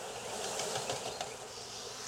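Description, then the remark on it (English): A steady, dense hum of honeybees buzzing around hive frames as a beekeeper moves frames between hive boxes, continuous, with faint flutters and shifting drones from many insects at once and no talking. “There's some bees on the edges, so gotta be careful.”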